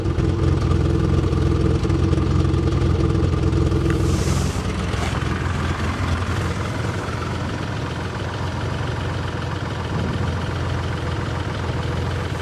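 A car's V6 engine idles with a steady low rumble, slightly uneven, lumpy and rough, running continuously with a brief shift in tone partway through and no talking.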